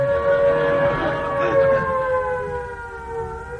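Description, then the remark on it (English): An air raid siren wails steadily and loudly throughout, its rich droning tone sliding slowly downward in pitch as it begins to wind down, with no voices present. “It's a good job the siren hasn't gone, isn't it, Mr.”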